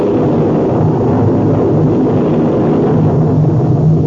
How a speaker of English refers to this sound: Professor, that is thunder. Don't make so much noise about it.